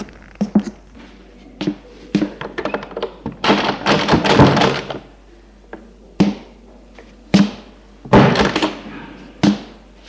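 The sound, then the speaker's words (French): A back door of a church is worked open with a series of sharp knocks and clunks, plus two longer bursts of rattling and scraping as the handle and latch give way. No one speaks. “Arrivés à l'église, ils vont ouvrir une porte derrière.”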